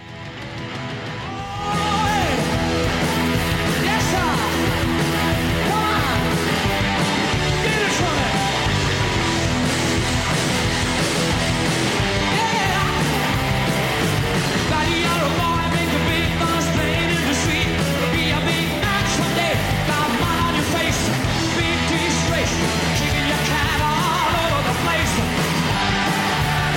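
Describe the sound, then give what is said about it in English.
A fast, loud 1982 live rock performance kicks in after a brief quiet opening, with driving drums, dense distorted guitars and shouted vocals pounding along without a break. “Well, this, in 1982, they used to do a fast version of it.”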